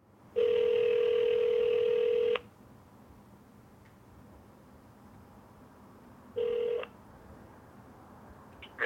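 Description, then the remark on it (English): A telephone dial tone hums steadily for about two seconds, then cuts off. After a quiet pause comes a short keypad tone, and another blip begins right at the end. No one speaks. “And I find a phone number.”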